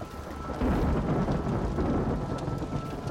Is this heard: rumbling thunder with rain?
yes